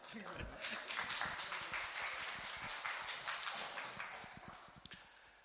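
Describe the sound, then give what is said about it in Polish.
An audience applauds, many hands clapping in a dense, steady patter that holds for about five seconds before easing slightly at the end. “Brawa.”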